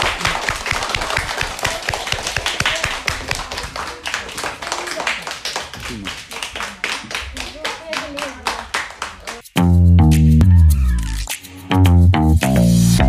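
A small group claps rapidly and unevenly for about nine seconds, a crisp, busy patter of hands, before it cuts off and loud tonal music with a steady low beat takes over.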